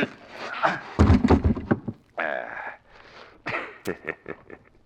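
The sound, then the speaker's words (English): Knocking on a door: a quick cluster of heavy thumping raps, a brief sustained tonal sound, then a second run of lighter, evenly spaced knocks that taper off. “Oh, somebody knocking.”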